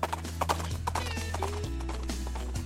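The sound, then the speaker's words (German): A horse gallops, its hooves drumming out a quick, steady clip-clop rhythm over sustained low tones, with a brief higher whinny-like sound partway through. “Der galoppiert.”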